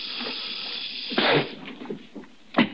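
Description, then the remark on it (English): A snake hisses in a steady, airy rush, broken by a couple of louder, sharper bursts of hissing. No voices are heard. “Snake? Hey, Snake. Look.”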